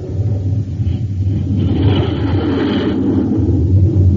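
A Scorpion jet fighter, a 20-ton aircraft 53 feet long with a 56-foot wingspan, roars as it takes off, a loud, continuous engine rumble with a deep low drone that swells into a brighter rushing whine midway, then settles back. No voices.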